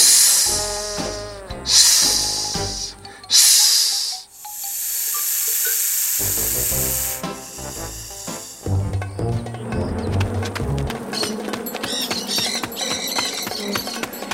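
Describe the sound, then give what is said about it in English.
A snake-like hiss comes in a few short bursts, then stretches into one long, loud sustained hiss before lively music takes over. “I think I see a snake.”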